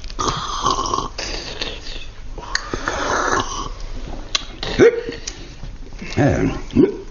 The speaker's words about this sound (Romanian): Nu știam că sughiți. Cred că sunt obosit, zice iar prefectul.